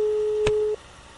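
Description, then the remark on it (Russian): A telephone busy signal on a call that gets no answer: one steady, low-pitched electronic tone holds for under a second, with a brief click partway through, then cuts off, leaving a quiet line hiss. No one speaks. “Смотрите, вот слышите гудок?”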